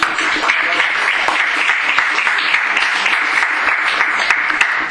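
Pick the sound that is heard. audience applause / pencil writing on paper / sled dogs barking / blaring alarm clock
audience applause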